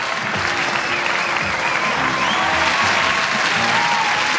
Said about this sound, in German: Ja, dat is een applaus waard hoor. Dat is een heel groot applaus waard.